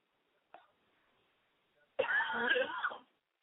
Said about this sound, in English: See? Makes you cough. Just thinking about it.